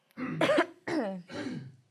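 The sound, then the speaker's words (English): Three raspy coughs in quick succession, each a harsh voiced burst lasting under half a second, the last one trailing off a little softer. No talking around them. “So in your previous, wait, I need to cough.”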